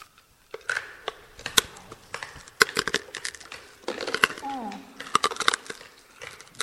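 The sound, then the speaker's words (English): Loud, irregular crunching of hard candy being chewed with the mouth open in the dark with headlamps turned off, giving off visible sparks; sharp crackling snaps in uneven bursts, with a brief voiced murmur partway through. “We really need to be chewing with our mouth open, okay?”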